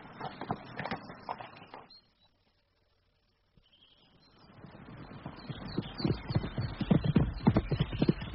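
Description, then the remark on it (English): Horse hooves clip-clop in a steady, uneven rhythm, stop for a brief silent pause, then resume and grow louder with a scuffing, shuffling texture. No one speaks. “Fetch me the quietest horse.”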